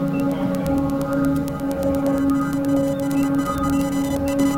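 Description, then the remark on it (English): A Morse-code-like signal: rapid, regular electronic clicks and pips tapping over a steady droning tone, fairly loud, continuous with no voices. “And now it sounds as if we're sending a Morse code signal.”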